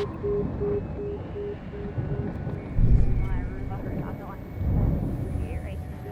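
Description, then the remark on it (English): A helicopter hovers overhead, a steady low rumble with a pulsing drone that swells and fades, mixed with wind buffeting and muffled voices. “Kind of scary to have this helicopter hovering around.”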